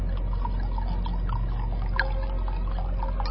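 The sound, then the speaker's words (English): Wine pours into a glass in a steady, continuous trickle over a low background rumble, with a single small tap partway through, for a late-night glass of wine aboard a Zeppelin moored above a floating city. No one speaks. “And meanwhile, back on the Zeppelin moored above the floating city, Captain Heinrich von Baumbaum and Contessa Entelina Illuminato are having a late-night glass of wine together.”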